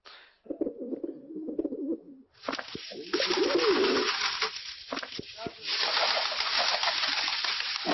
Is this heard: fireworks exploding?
no